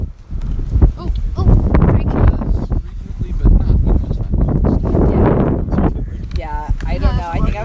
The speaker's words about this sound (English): So, like, does it get this windy often? Like, is it a common weather?